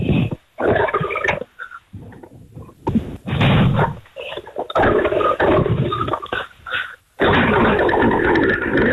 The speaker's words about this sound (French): Vous demander de l'allumer, s'il vous plaît. Et puis, on va vérifier votre voix sur le bruit de la tronçonneuse. On en a pour quelques secondes. Allez-y, s'il vous plaît, vous la démarrez. Alors, ça va démarrer.